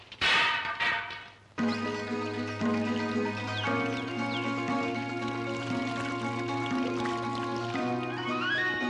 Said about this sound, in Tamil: அடியாத்தி, ஒரு குடம் தண்ணியும் குடிச்சுட்ட? இதுல எல்லாம் என் தாகம் தீராது போல இருக்கு.